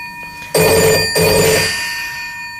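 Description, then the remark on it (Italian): A bell rings loudly in two quick bursts, a bright, buzzing metallic ring with sustained high tones that fades out gradually after the second burst. No one speaks. “Ma ha suonato qualcuno?”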